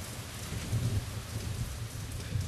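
pouring rain

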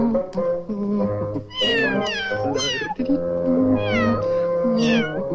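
kittens meowing

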